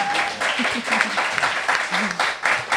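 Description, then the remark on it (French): A dense burst of applause, many hands clapping in a steady crackling wash that holds for a few seconds, with a voice murmuring faintly underneath. “On applaudit avec un...”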